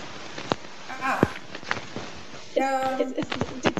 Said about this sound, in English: Is it the movement of the paper, Your Honor? I just moved my paper over.